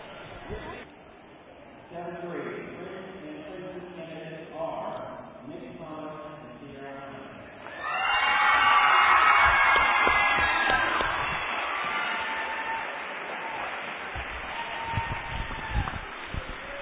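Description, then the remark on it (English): A voice talks over a low crowd murmur at a 2007 homecoming coronation, then a loud swell of crowd cheering and shouting breaks out about halfway through as the seventh-grade princess is announced, and stays strong, slowly easing toward the end. “If you're wondering what all that cheering about is, we've got the homecoming coronation.”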